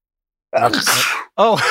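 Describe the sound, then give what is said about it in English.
A single loud sneeze bursts out after a moment of silence, a voiced lead-in breaking into a rough, hissing blast, followed by a short voiced exclamation. “Sneezing is never normal.”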